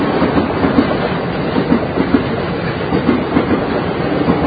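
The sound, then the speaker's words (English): A train rolls steadily past without slowing, a loud continuous rumble with faint rhythmic clacking of wheels on the rails and no voices throughout. “There's a train that's not going to stop.”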